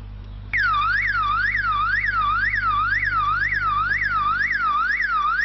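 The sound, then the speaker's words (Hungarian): A loud electronic motion-sensor alarm siren, set up to deter fish thieves, starts abruptly and wails continuously, its pitch sweeping up and down in a rapid, steady cycle over a low background hum. “A sziréna mellett kamerákkal rögzítik is, hogy kisétál errefelé éjszaka.”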